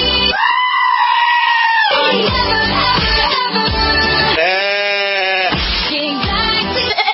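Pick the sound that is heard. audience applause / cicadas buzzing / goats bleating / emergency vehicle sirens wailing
goats bleating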